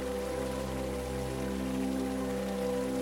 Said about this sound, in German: Du bereitest dich auf das nächste Peitschenknallen vor, doch außer dem sprudelnden Wasser und dem fernen Vogelgesang dringt kein Geräusch an dein Ohr.